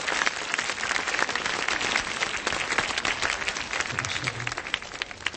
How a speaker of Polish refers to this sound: Oklaskami dziękujemy.